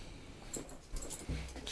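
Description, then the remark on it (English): A female dog whimpers at a door, wanting it opened, in short, high-pitched bursts, a few soft whines and yips in quick succession, with no one talking. “And then occasionally she'll try and tell me to open the door.”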